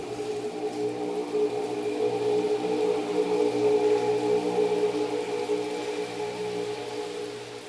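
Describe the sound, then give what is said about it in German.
A steady, sustained harmonic tone rings out for several seconds, its overlapping echoes blending into a continuous, gently swelling wash of sound across the landscape. No voices are present. “Das Echo ist nicht nur ein amüsantes und beeindruckendes physikalisches Phänomen”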